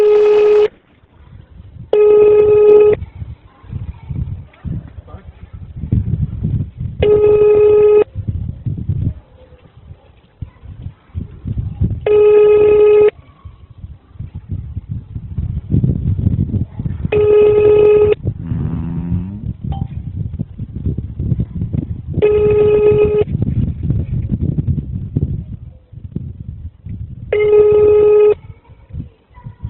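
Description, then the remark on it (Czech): A telephone ringback tone repeats at steady intervals of about five seconds, each ring a short buzzy burst, heard over a line with constant low rumbling noise in the background, while a call is being transferred to the police in Prague 13. “Budete mluvit přímo s tou 13, protože jaká voláte na centrálu, jo? Dobře. Vydržte mě na telefonu.”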